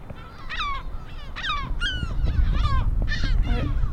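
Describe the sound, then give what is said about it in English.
Seagulls call repeatedly near their nest, which holds three eggs, in loud, harsh, descending cries that overlap one another, with a steady low rumble of wind or surf underneath and no one talking. “I almost stepped into the seagull's nest with three eggs. That's maybe why they make so much noise.”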